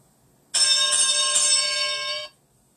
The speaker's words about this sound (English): And when you hear the bell, I want you to come out swinging.